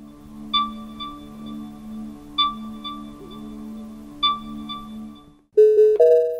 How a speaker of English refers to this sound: the vehicle features a pleasant pedestrian warning sound.